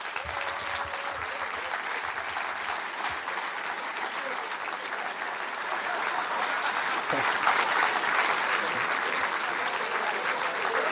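An audience claps steadily for about eleven seconds, a dense, even wash of hand claps that swells slightly louder toward the end, with faint crowd murmur mixed in.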